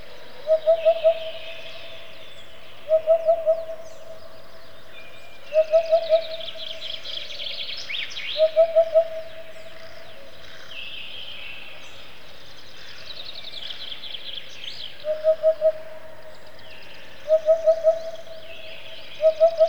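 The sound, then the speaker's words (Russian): A Eurasian hoopoe repeats its soft, hollow 'oop-oop-oop' call, triple-note phrases coming steadily every couple of seconds, clear, with faint chirping from other birds in the background. “Эту нарядную птицу под Москвой редко услышишь, но чуть южнее глуховатый голос у Дода очень обычен.”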